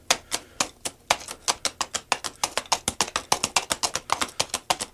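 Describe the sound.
Two hollowed-out coconut shells with straps across the top, held in the hands and struck down in dirt to imitate a horse walking: a steady stream of sharp, hollow clops in a brisk, even rhythm, moderately loud with no voices.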